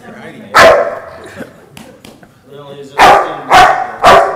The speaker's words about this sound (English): If he doesn't have access to that person, let's say they're hiding in that closet, he will go to that closet and he will bark, letting me know that dad or someone.